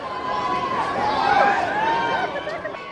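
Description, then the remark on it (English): A crowd of Harrison Ford fans and baseball fans outside a Thursday evening special pre-release showing of the movie 42 in Kansas City buzzes with overlapping chatter and excited calls, a steady dense hubbub that swells slightly in the middle with a few higher-pitched shouts. “Harrison Ford fans and baseball fans were out in force to see the star outside Thursday evening's special pre-release showing of the movie 42, about how Jackie Robinson broke the color line in Major League Baseball.”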